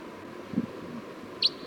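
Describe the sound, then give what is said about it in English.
A wild crossbill down the hill gives one short, high-pitched chip note near the end, faint against a steady low background hum. A soft low thud sounds earlier, and no one speaks. “Sounds like there was a wild crossbill down the hill.”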